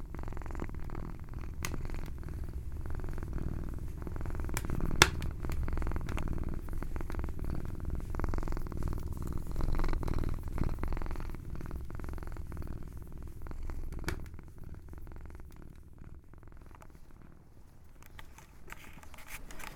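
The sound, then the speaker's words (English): A male cat purrs steadily, a continuous low rumbling hum that holds for the whole stretch, with a couple of faint clicks and a slight softening near the end. “Before I explain, I had better give the cat his dinner, else this bad spirit will be waiting for me when I come home.”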